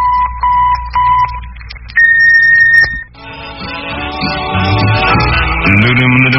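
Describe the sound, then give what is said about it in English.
The KFWB radio station's electronic time tone, marking exactly one minute before 7 o'clock: several short, evenly spaced mid-pitched beeps, then one longer, higher steady tone lasting about a second, after which music begins. “The KFWB electronic time tone is accurate to within 1/20,000th of a second. At the tone, exactly 1 minute before 7 o'clock.”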